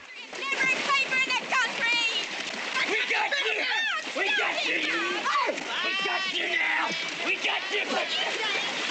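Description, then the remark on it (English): Water splashes and sloshes steadily throughout as Buck wades through a lake to Clyde, who has leapt in after a ranger he flung into the water, with several voices calling and talking loudly over the splashing. “Buck wades to Clyde.”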